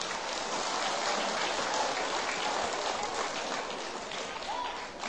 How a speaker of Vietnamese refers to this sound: Nếu việc làm này là dễ dàng thực hiện được thì các cháu hãy dành một tràng vỗ tay thật lớn.